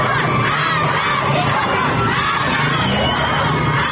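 A crowd of schoolchildren in Sanandaj shouting protest chants together after leaving school, loud and continuous, their massed voices filling the whole recording without a break.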